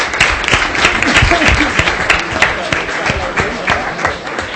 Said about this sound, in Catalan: Moltes gràcies i fem un aplaudiment també.